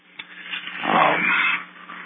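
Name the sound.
dog growling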